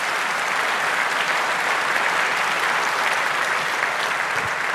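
A crowd applauds steadily, the clapping a dense, even patter of many hands that holds at a fairly loud level for the whole stretch without building or fading.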